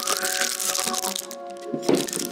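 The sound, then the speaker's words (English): Crunching, crackly footstep sound effects made by a Foley artist for radio shuffle along over a steady low hum, the scuffs running together rather than landing as distinct, evenly spaced steps. “More footsteps.”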